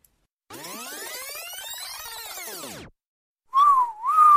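A loud catcalling wolf whistle, starting with a long sweeping rise-and-fall, then a pause and a shorter swooping whistle, with no talking.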